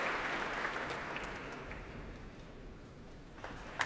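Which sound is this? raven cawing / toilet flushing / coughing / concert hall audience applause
concert hall audience applause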